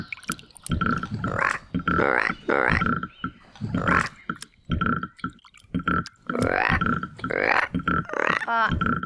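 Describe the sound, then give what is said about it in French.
A frog at a pond with water lilies gives loud, repeated guttural croaks in irregular bursts throughout, some throaty and low, others rising into higher, squeakier calls, with brief gaps between. “Quelque chose bondit hors de la mare. C'est une grenouille.”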